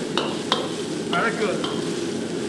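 Steady, hissing sizzle of chicken being stir-fried over a fire in a wok with hot chilies, Sichuan peppercorns, ginger, garlic and scallions, broken by a few sharp metallic scrapes and clinks of the spatula against the pan. No one speaks.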